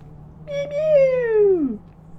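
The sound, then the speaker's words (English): A single drawn-out meow from Milo the cat, clear, starting high and sliding down in pitch as it fades, heard over a faint low background hum with no talking. “And Milo the cat.”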